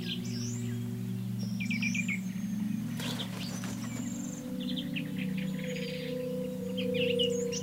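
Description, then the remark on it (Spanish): A flock of small birds, swallows, chirps and twitters continuously, many overlapping high calls in quick bursts, set against a steady low hum of background noise. “Golondrinas veloces tejen líneas invisibles en el aire.”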